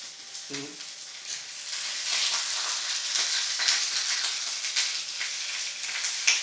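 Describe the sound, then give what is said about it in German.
Steady, hissing sizzle of potato pancakes frying in a hot pan, continuous and moderately loud throughout, with a brief low thump near the start as a potato pancake thrown from about 2 meters away lands in it. “Ich stehe jetzt hier in 2 Meter Entfernung der Pfanne und mache Zielwerfen.”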